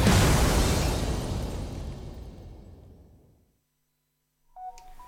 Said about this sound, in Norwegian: Der, da ble det litt rock'n'roller. Nå har vi selvfølgelig ikke telefon på lydløs.